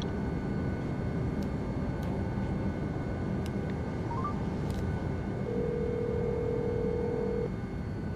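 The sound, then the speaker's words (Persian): A few short electronic beeps of a mobile phone being dialed on the boarding bridge to a plane at an airport, followed by a steady tone, all over a constant low hum of background noise like jet engine drone. “می ایسته، با موبایل شماره می گیره.”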